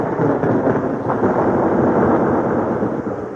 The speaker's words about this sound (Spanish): En ese momento, el libreto de Schikaneder ordena que se produzca un acorde musical violento que inspire miedo con todo y truenos. Las damas reconocerían entonces que se acerca la reina de la noche.